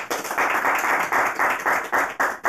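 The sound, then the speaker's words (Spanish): A crowd claps for the Lord, giving thanks for still gathering after COVID, together in a quick, steady rhythm, about nine loud beats in a row over a continuous wash of scattered clapping, with no voices. “¿Cuántos damos palmas al Señor por eso?”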